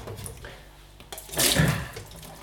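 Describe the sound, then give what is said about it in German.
Running water splashes through a sieve over drained canned chickpeas, a steady rinsing hiss that swells louder midway, with faint drips and clatter and no talking. “Die tropfen wir einfach ab in einem Sieb. Dazu vielleicht einfach nochmal kurz mit Wasser drüber.”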